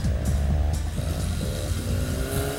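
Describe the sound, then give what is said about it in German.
A man's car engine rattles and sputters at night, a steady rough idle with uneven chugging pulses, loud and continuous with no voices over it. “was will denn der Mann mit dem knatternden Auto von Kalli?”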